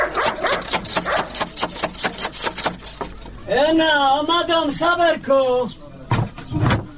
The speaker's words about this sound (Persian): اوهو، این چی سگ خطرناک داره که نخوری ما.